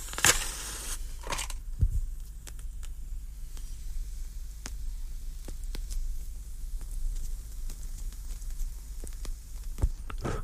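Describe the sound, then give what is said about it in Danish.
A sharp scratchy strike and a second brief flare of noise, followed by soft, sparse crackles and faint puffs over a low steady hum as a cigar is lit. No one speaks. “Jeg skal lige have ild på cigaren.”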